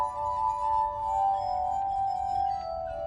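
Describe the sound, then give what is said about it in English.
A sustained, ringing glass tone hums steadily from wet glass bowls on a metal rod, turned by a foot-driven large spinning wheel and played with wet fingertips, with a soft low rumble beneath and no voices. “And then I'm using my foot to make all the glasses move at the same time. So I can play any glass I want.”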